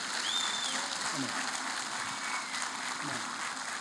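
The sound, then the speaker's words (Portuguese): Sustained audience applause for a ministry, a dense steady wash of many hands clapping at an even level, with faint voices and a brief whistle-like tone mixed in. “Eu peço uma salva de palmas para esse ministério, graças a Deus.”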